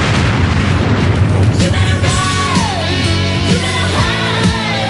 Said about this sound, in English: But it was full stereo sound that made the explosion.